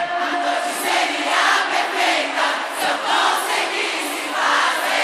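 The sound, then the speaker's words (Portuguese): A large concert crowd in Brasília shouts and cheers continuously when asked to raise their hands and make noise, a dense roar of many voices swelling and easing in waves, loud throughout with scattered higher yells rising above the mass. “Levanta a mãozinha e dá um grito aí. Alô, Brasília, faz barulho”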